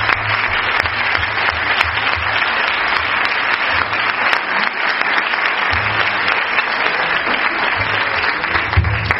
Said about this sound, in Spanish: Exacto. Un aplauso.